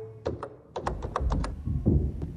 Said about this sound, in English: The laptop's open. Are the keys too loud? Maybe I could tap them more gently.